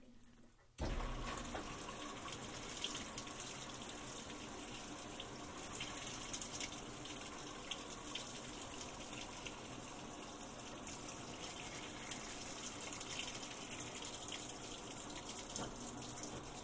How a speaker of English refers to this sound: Just turns it on every once in a while to move the clothing around slowly whilst the water's coming down on top of it.